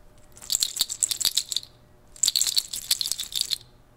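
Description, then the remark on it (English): Two bursts of clattering rattles from deer toe dangles on a bag that also bears 14-karat gold beads, each a second or so of dense, bright clicking, with a short pause between. Fairly loud, with no voices. “But it's embellished, the bag itself is embellished with the toes of deer.”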